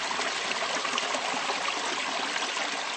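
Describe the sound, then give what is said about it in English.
The river Kamenica flows in a steady stream of clean, clear water that rushes and burbles continuously, fairly loud, with a constant hiss of splashing over stones and no voices. “The river Kamenica used to be full of salmon, but they disappeared due to pollution.”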